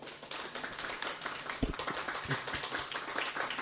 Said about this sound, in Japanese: 皆さんもあったかい拍手を送っていただいて